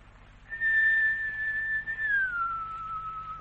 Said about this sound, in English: You would like to see Bomba perform? A splendid amigo. I will whistle for him.